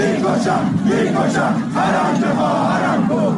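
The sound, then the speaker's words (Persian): A large crowd chants in unison at the fortieth-day memorial ceremony for Mehsa Mogoyi in Fuladshahr, Isfahan, many voices rising and falling together in a steady, loud rhythm that fills the whole clip without a break. “در فولادشهر اصفهان جمعیتی انبوه در مراسم 40 مهسا موگویی گرد هم آمده بودند.”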